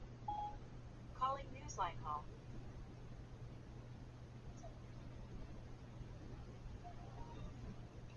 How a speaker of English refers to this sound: I will be providing this demonstration for you on an iPhone since most folks don't have landlines today. So I think that we are ready to get started. I've got my phone. I'm going to go ahead and make the call. Call Newsline.